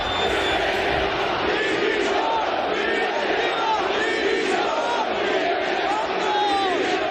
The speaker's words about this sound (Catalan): I l'afició del Mallorca va acabar molt indignada ahir amb crits de directiva dimissió.